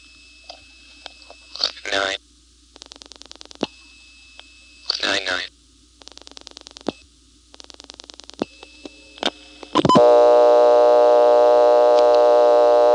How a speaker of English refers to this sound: Anyway, on this call, I'm going to dial the rest of the number, and you'll hear it start to click into that 1 kHz tone, but as soon as the answer signal is detected here in Plainfield, the tone will be replaced with the second dial tone.